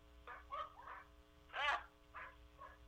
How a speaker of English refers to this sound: God, I wish that dog would shut up.